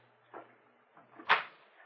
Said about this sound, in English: We hear a key turn in the door. The door unlocks.